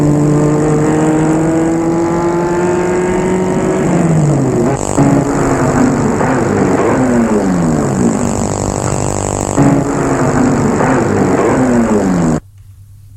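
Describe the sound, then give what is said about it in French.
A car drives over gravel, its engine loud, pitch climbing and dropping through several gear changes under a steady rough hiss before cutting off abruptly as it stops in front of a house. “On entend une voiture qui roule sur le gravier.”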